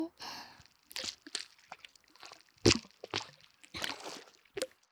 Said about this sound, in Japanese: お顔に落書きしてるみたい。お鼻の下、たっぷり泡塗って。